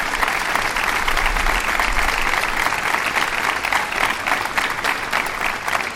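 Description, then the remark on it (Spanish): Sustained applause from a large crowd, a dense steady patter of many hands clapping at constant loudness for about six seconds, with no voices standing out, welcoming 54 new local police officers at the celebration of the police's patron day. “Muchísimas gracias y un aplauso también para ellos de bienvenida.”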